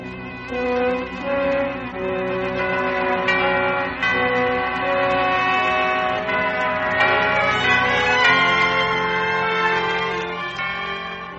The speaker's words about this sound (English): The little Spanish-Moroccan export town of San Angelo is famous for only one thing, the bells of the Mission San Angelo.